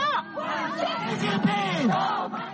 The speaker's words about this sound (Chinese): 在会场外围的一处场所，同时聚集着抗议和欢迎习近平访美的人群，欢迎人群挥舞着中美两国国旗，喊着中国万岁的口号。